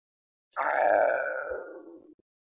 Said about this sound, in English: Sorry, excuse me, that sound there is me being physically unable to burp and instead making this weird gurgling sound from the depths of my chest.